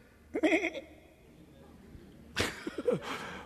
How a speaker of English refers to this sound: And Samuel said, what meaneth then this bleating or baaing of the sheep in mine ears?